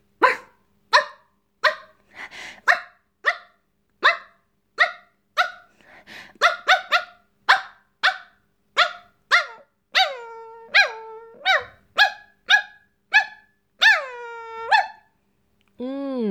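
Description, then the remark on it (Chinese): A person imitates a dog with about twenty loud barks in a steady rhythm, a few drawn out into whiny yelps near the end, with no other talking. “来，乖狗狗，给主人学几声狗叫”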